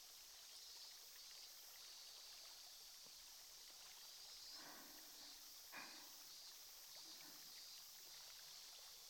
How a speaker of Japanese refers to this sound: シュワシュワ、パチパチって心地いい音がしてますね。